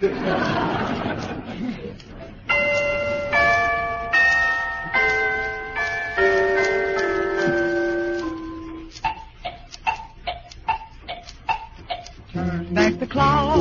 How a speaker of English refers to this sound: will sing, and will play the piano, the celesta, the toy bells, and the Chinese woodblocks. It's a very pretty effect. They do it on bicycles.